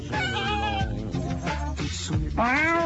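A virtual cat in a computer cat simulator game meows in drawn-out, whiny complaints after being sprayed with a sprayer, several unhappy yowls in a row, fairly loud with no talking, ending on a rising plaintive cry.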